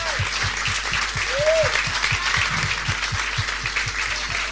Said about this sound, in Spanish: así que yo le pido otro aplauso